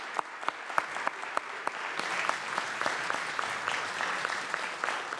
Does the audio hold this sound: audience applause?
yes